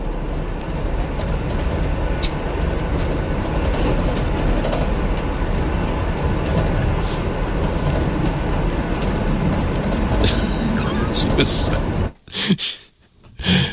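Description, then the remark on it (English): A train thunders through snow in a loud, steady rushing roar that holds for about twelve seconds, then cuts off abruptly, leaving a few brief bursts of noise. “The train plowing through the snow.”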